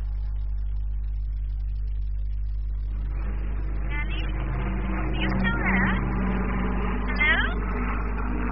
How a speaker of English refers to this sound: Mummy, there was a plane going over.